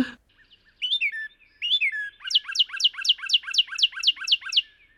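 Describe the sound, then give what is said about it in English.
A loud bird call alone: two slurred, rising whistled notes, then a rapid series of about nine sharp, high, downward-sweeping chips in steady rhythm, like a car alarm. “And their call is so, I don't know, arresting. Just that car alarm, like, wacheer, wacheer, rip, rip, rip, rip.”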